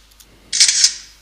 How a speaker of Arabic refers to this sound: سمعنا صوت أخذ أو التقاط الصورة. الآن في محاولة من الكاميرا للتعرف على هذه الوثيقة.